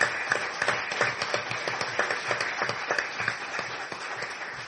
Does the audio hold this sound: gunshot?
no